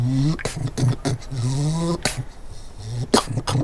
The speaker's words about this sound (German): Wenn Sie sich jemanden in Abstand halten wollen, da reißen Füchse den Fang auf und geckern. Dann heißt es, komm mir nur nicht nah.